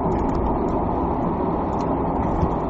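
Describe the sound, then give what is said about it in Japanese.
Steady, loud rumble of car traffic noise with a constant low roar and hiss that never lets up, plus a few faint high ticks near the start. Nobody speaks. “今車の竿の音がだいぶ入ってましたね、チキチキチキチキチキチキ。”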